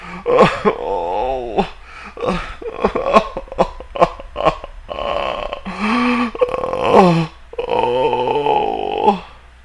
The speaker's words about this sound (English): The sound of … crying can be heard in the background.